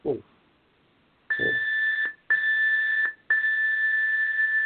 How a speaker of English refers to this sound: And that's just to prove that there's the beat, because we had that's the timer, and then after the 7 minute timer, there's a 3 minute countdown in the studio.